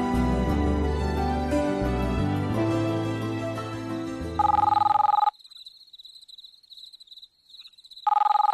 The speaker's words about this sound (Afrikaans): Ja, ek was op die punt om jou te bel en toe lui my foon. Hier staan ek met hom in my hand.